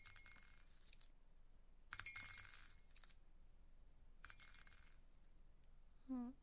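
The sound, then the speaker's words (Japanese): Three bursts of small amethyst chip stones clattering as they are moved from a dish into a glass cup, a bright rattling pour each time separated by short pauses, fairly quiet, with a brief low voiced sound at the end. “今日はアメジストの、サザレイシを用意しました。はい、このような感じでちょっと器に入ってるんですけども、これを行くたびにガラスのコップに移す。”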